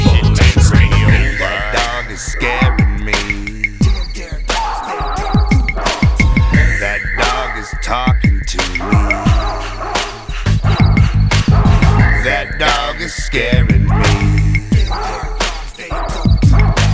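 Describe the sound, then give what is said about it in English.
A dog barks and yips over and over, loud, in quick excited bursts that keep going almost without pause, with a few whiny, whimpering notes mixed in. “That dog is talking to me.”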